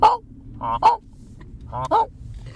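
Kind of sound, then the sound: bird, geese honking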